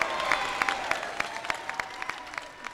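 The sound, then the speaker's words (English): A crowd applauds steadily at the signing of an order restoring civil and voting rights on April 22nd, 2016, a dense wash of clapping with sharper individual claps popping out every fraction of a second, and a faint murmur of voices underneath. “People were crying and shouting.”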